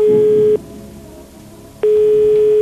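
A telephone ringback tone heard while placing a call on the TV quiz show Hvem vil være millionær?: a loud, steady electronic beep that cuts off, leaves a quiet gap of about a second, then starts again. No one speaks.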